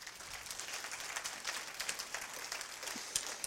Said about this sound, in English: Oh, that's a good place to give God a clap offering right there.